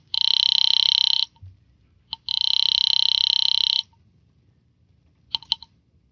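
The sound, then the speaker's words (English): A telephone line buzzes with two long, steady rings separated by a short click, then a quick cluster of receiver clicks follows near the end as the phone is picked up and a number is dialed to call a bookie joint. Fairly loud, with no talking. “I picked up the phone to call a bookie joint run by a guy named Joey Galt.”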